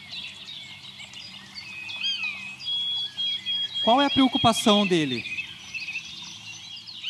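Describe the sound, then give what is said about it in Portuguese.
A bird sings steadily with high, thin chirps and whistled notes throughout, moderately loud, while a person briefly speaks over it partway through. “Ele tá perguntando, quem tá achando bonito o meu canto aí? E ele tá ali, ó.”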